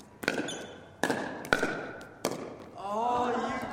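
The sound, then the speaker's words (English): Four sharp, ringing pops of plastic pickleballs land at uneven intervals, echoing through the Floyd Dryden campus gymnasium in the Mendenhall Valley, Juneau, on a Wednesday afternoon, followed by a burst of high, wavering sneaker squeaks over a faint murmur of voices. “The patter of pickleballs and the squeak of sneakers fill the Floyd Dryden campus gymnasium in the Mendenhall Valley on Wednesday afternoon.”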